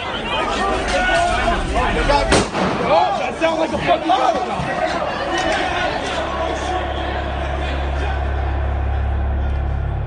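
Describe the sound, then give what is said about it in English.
A single sharp gunshot cracks out over the loud babble of an agitated crowd at the US Capitol on January 6th, at a door to the Speaker's Lobby defended by Capitol Police; the shot killed Ashley Babbitt. Shouting and chatter carry on afterward as a low rumble builds underneath. “Ashley Babbitt was shot and killed.”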